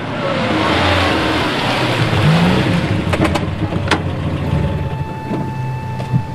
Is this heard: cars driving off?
yes